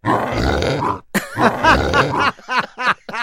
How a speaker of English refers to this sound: That's pretty serious. That's our pet pig. In my medical opinion, it sounds bad, and I don't know what it is.